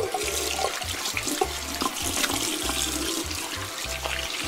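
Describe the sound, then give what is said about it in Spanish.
Very dirty hands being washed under a running tap, with steady splashing water and irregular low thumps as the hands move through the stream. Fairly loud, with no talking. “Pero déjame que me lave las manos primero, están bien sucias.”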